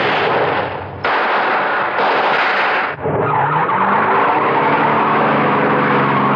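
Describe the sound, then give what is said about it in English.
Loud, harsh bursts give way to a getaway car's engine roaring, its pitch climbing as it is shoved into gear, accelerates hard and speeds away. No one speaks. “I shoved that getaway car into gear and took off.”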